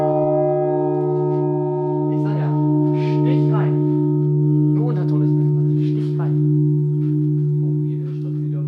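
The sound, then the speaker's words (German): Two tonne-weight church bells in the bell chamber of the tower of St. Johanneskirche in Wernigerode ring steadily, their deep, humming tones and layered overtones sustaining without a break while people talk over them. “ganz begeistert von den beiden tonnenschweren Glocken.”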